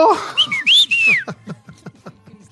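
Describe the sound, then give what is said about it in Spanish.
A person whistles a short run of bright, gliding notes, rising and falling, followed by faint low rhythmic tapping as the whistle fades out. “Y con chiflido y todo.”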